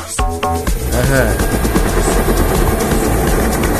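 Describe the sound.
A loud, steady airplane engine roars continuously, with a brief tonal voice-like sound at the very start before the heavy drone takes over.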